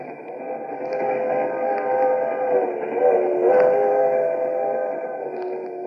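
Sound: moving passenger train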